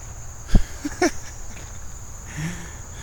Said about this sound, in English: Hi, bug. That's a cicada. Just flew right over me. And now he's flying off into the trees somewhere else. That was a cicada. He tried to attack me.